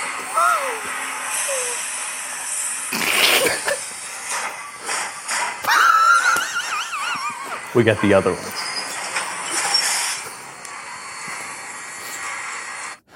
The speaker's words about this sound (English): And side one, which, I mean, I'm going to just skip to the middle of side one. The A side of railroad sounds.